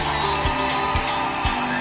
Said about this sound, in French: Nous sommes en direct du Centre culturel et artistique des pays d'Afrique centrale à l'occasion de la clôture du mois dédié à la femme. Applaudissez très très très fort.